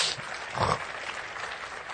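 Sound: audience applause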